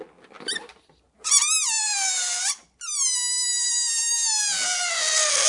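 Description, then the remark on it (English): A high, wavering squeal of air escaping the stretched neck of a different type of balloon, in two loud bursts with a brief pause between, the pitch sliding and warbling downward, with no talking. “So let's see if this balloon sounds different, because it's a different type of balloon.”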